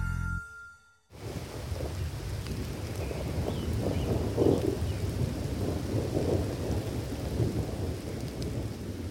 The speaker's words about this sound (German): Erholungssuchende, Waldsportaktive und Naturmenschen werden leider oft genug von Gewittern ausgerechnet beim Waldbesuch überrascht.